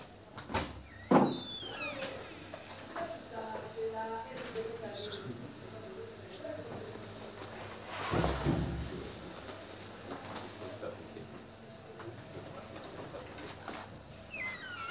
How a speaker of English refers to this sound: I'm going to close Rabbi Yishai's door.